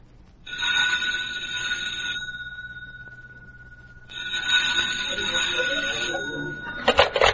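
An old-fashioned telephone bell rings loudly in a home in Beverly Hills in the late morning, two long jangling rings separated by a brief pause, with no one talking.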